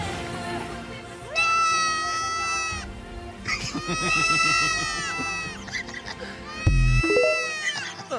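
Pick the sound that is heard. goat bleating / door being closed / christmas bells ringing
goat bleating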